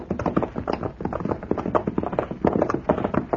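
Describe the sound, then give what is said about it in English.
Steady clip-clop of horse hooves as riders move along in the dark, a brisk, uneven rhythm of hoof falls continuing throughout with no voices. “Now, let's get these horses hobbled.”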